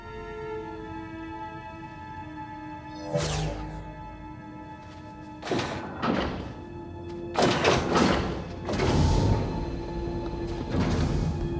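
A strangely shaped mechanical door opens, a green light running along its edges, with a series of heavy thunks and whooshing slides over a steady electronic hum, several sharp bursts spaced a second or two apart, fairly loud; two people enter as it opens.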